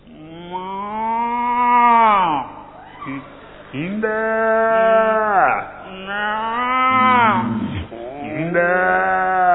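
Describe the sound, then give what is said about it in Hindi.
A person imitates a buffalo's call: three long, drawn-out moaning bellows, each rising and then sliding down in pitch, loud, with short pauses between them. “भैंस, भैंस की आवाज।”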